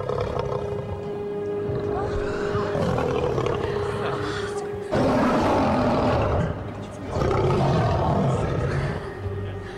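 lion roaring

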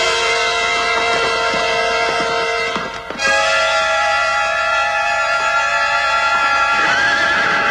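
horse neighing and hooves

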